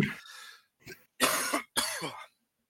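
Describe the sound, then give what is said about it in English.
A short burst of harsh coughing: one brief cough, a small one, then two louder, raspy coughs in quick succession, with no talking. “All right, hold on 1 second. I have to cough.”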